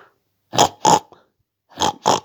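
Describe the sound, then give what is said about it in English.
A person imitates a pig with four short, throaty grunts, delivered in two quick pairs separated by a brief pause. The voice is fairly loud, with no other sounds. “Grunted the pig.”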